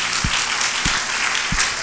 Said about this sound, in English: Come on, one more time, clap those hands for the word of the Lord. Everybody.